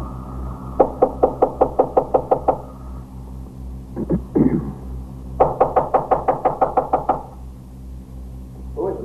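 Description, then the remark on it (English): Two bursts of heavy, rapid pounding on a door, about ten loud blows each, separated by a brief pause with a couple of thuds, over a steady low hum, as police officers hit the lock with axes to break in a fourth-floor door. “Knock it in. Use those axes.”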